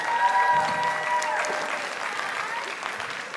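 A crowd claps steadily in a dense, even wash of applause that holds at a fairly constant loudness for a few seconds, with no voices standing out.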